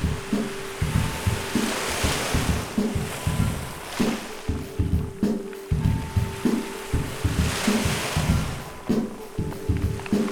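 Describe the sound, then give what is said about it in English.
Soft ocean waves wash in and recede in slow, hissing swells, with a steady low hum and gentle rhythmic thumps beneath; no one speaks. “Let's step into the water. Waves soft like a kiss upon the skin, adjusting to the difference between out and in.”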